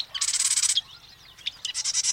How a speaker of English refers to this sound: The marsh wren.